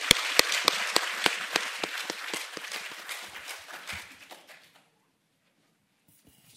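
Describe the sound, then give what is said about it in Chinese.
A crowd applauds to welcome a professor giving an evening lecture on the history of opium, a dense wash of clapping with a few sharp, louder claps standing out, steady for about four seconds before fading out to near silence. “让我们热烈掌声欢迎他。”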